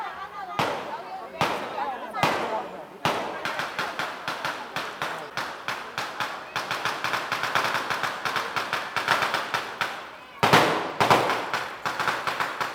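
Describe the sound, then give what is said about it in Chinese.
Deafening cannon fire booms from a cannon mounted on the roof of a vehicle in a folk religious procession: a few spaced blasts at first, then a dense, rapid barrage of sharp bangs that keeps going, loud throughout. “震耳欲聋的炮声”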